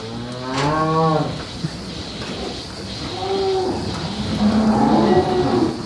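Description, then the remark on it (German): A dairy cow, almost entirely black with a white belly and a white marking on the left shoulder, moos loudly several times in succession, long low drawn-out calls with a rising, wavering pitch, with no talking. The cow lives at Haus Düsse near Soest, a farm where 150 dairy cows are milked. “Die Kuh lebt in der Nähe von Soest im Haus Düsse.”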